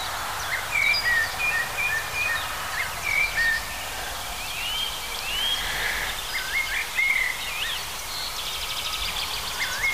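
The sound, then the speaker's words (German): A European robin sings a run of thin, high, fast and delicate warbling phrases and trills, steady over a low, constant background rumble of road traffic in autumn. “Allerdings, wenn wir mal vor eins um Rotkehlchen genau stehen, dann wird es ziemlich schnell klar.”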